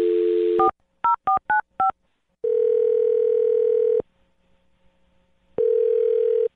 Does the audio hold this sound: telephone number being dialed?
yes